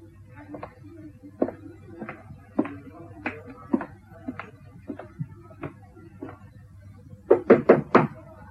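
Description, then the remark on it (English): Knocking on a door: a dozen or so even, moderate raps at a steady pace, then a sharper burst of four louder knocks at the end, over a low background hum. “No need to stand knocking, my dear.”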